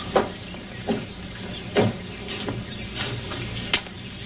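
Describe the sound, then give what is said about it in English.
A run of sharp, irregularly spaced knocks, about six, rings out against a steady hissing background: hammering outside, where a man works on a back house in the garden. No one speaks. “Hearing the hammering outside, she steps toward a sliding door.”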